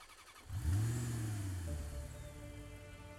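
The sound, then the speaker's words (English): A car engine cranks and catches around half a second in, surges in a loud low rev, then settles into a steady, rumbling idle with a faint higher whine. “I painfully climbed in and started the car.”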